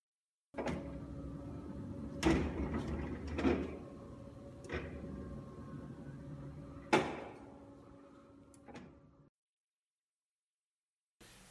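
A parking lot gate bar rising: a steady mechanical motor hum runs for about nine seconds, punctuated by several sharp clunks and rattles, then stops abruptly.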